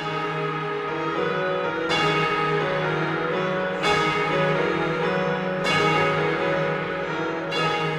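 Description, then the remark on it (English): Orchestral bells clang in a dense texture in an opera's overture, imitating the bells of St. Mark's in Venice, with fresh strikes roughly every two seconds ringing out over sustained, shimmering harmonies; loud and full, with no voices. “Mark's, incorporating them into the opera's delayed overture, a sonic picture of the city, in which bells clang away, their ripe overtones written into the score.”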